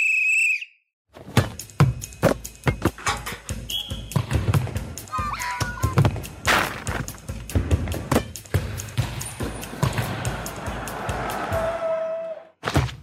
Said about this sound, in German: Abpfiff. So ungefähr. Nach 90 Minuten pfeift der Schiri und dann ist rum.